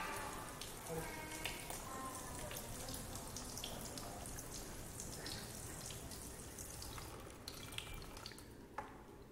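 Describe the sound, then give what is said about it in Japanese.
In a demonstration experiment, water is sprinkled like a light rain shower onto a model house built on sand, a continuous soft pattering and hissing that lasts throughout, with faint voices murmuring in the background near the start. “さあ、それでは皆さん、砂の家に雨を降らしてみましょう。”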